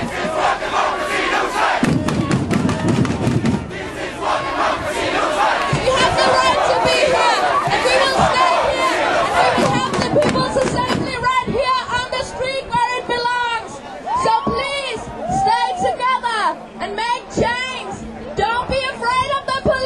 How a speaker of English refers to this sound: Danish police quickly surrounded the demonstrators and began attacking the crowd with pepper spray and batons. WMNF was at the demonstration and recorded this audio.